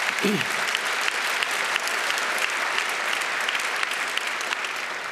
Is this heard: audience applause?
yes